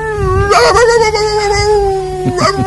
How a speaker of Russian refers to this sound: Да, надел его. И начал скулить, как собака под окном.